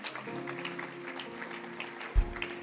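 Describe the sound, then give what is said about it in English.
An audience claps their hands in a steady, dense patter of overlapping claps, fairly soft overall, with sustained low musical tones underneath and a brief low thump near the end. “Oh, your hand clap can be better and louder.”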